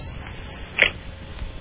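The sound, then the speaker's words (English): A short burst of crickets chirping, a steady high-pitched trill with a brief brighter chirp near the end before it cuts off, heard alone with no talking. “I'd like to compliment the Crickets again, though. They are 2 for 2, doing a fine job today.”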